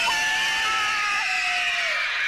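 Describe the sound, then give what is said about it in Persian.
A loud, sustained high-pitched scream holds steady for over two seconds, piercing, with a slight wavering pitch and no talking around it. “باهاتون یه جیغ بلند”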